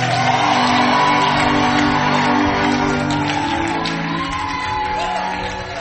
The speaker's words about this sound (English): Now give the Lord a big, big clap. If you didn't clap well, and had some rejoicing.